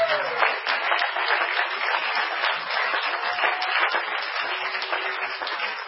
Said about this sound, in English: Let's clap our hands and thank God for that.